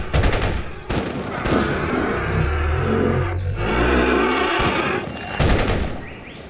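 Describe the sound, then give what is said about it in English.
Bursts of gunfire as defenders fire on a breached entrance, sharp, rapid shots over a loud, continuous roar and a low rumbling drone, with a cluster of quick shots near the end. “Concentrate your fire on the entrance.”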